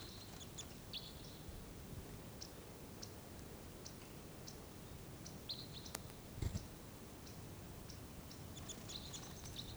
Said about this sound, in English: Another pair coming in. There's four crossbills altogether.